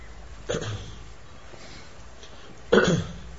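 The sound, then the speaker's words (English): Two short, sharp coughs from a person, spaced a couple of seconds apart, the second a bit louder, with quiet background hiss in between and no talking. “Hey, go with them and take some cough medicine.”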